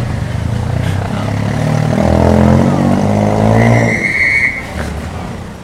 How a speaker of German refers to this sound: Das war in Cusco und noch sogar auch, es gibt ja auch so Verkehrspolizisten und die manchmal so Ansagen machen und wild pfeifen im Verkehr, habe ich hier auch noch.